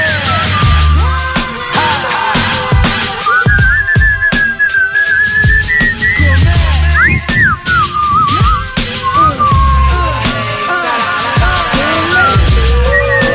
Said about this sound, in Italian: Dai, facciamo tutti insieme il fischio.